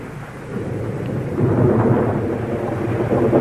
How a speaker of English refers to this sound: That's all right. It's a storm, but it's a long way off. Listen for the thunder.